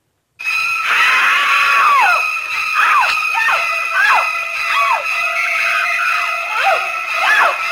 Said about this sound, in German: Sind es nun schrille Geigen oder ist das ein Duschvorhang, der nun zerreißt? Oder ist es eine Frau, die schreit, weil sie um ihr Leben fürchtet? Kommt dieses Geräusch nun aus diesem Raum oder ist es darüber gelegt?